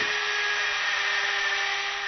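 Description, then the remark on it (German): A dentist's drill whines steadily at a high, piercing pitch, constant for a couple of seconds with a faint hiss underneath and no voices, as a dentist drills a patient's teeth. “Aber jetzt kann ich bohren, ohne dass er mich in die Finger beißt.”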